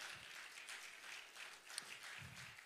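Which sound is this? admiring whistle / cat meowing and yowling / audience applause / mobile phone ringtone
audience applause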